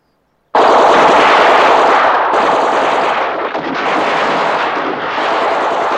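Sustained machine gun and rifle fire from soldiers of a red squadron, aimed over a golden wheat field dotted with poppies at advancing white army soldiers, starts abruptly and continues without pause: a dense, loud crackling barrage of rapid overlapping shots with no voices.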